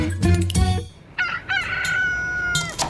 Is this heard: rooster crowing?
yes